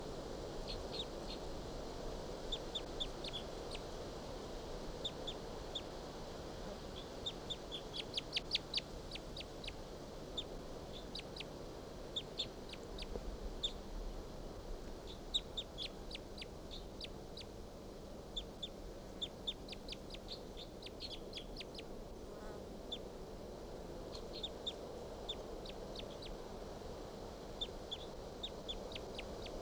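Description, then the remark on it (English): Soft, high-pitched calls of wild birds come in scattered clusters of quick chirps, rising and fading in bursts over a steady low background hiss. No voices are heard. “Song now about the wild bird. And they're calling up their soft calls.”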